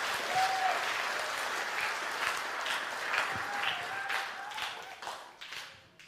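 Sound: short applause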